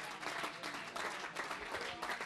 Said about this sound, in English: Hear hand clapping like you've never heard it before.